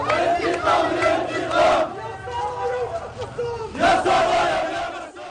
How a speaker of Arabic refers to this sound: المشيعون رددوا هتافات غاضبة ومنددة بالجريمة.